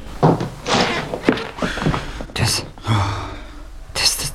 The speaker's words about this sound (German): unten klopft der Entführer an die Tür